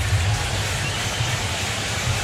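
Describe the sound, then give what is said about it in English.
A steady, dense roar of a baseball stadium crowd at Wrigley during a Cubs–Brewers game, broad and constant for a couple of seconds with a low rumble underneath and no clear voices standing out. “Crowd making some noise here at Wrigley.”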